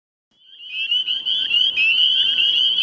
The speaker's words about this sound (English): It's dusk at Horse Pond in Madison, Connecticut, and the spring peepers are out in force. These tiny nocturnal frogs have large vocal sacs in their throats. They draw air into the sac so it fills up